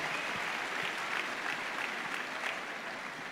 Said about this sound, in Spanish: Aplauso y démosle gracias al Señor por eso.